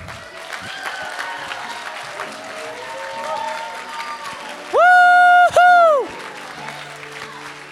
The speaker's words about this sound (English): All right, can we just do one last round of applause?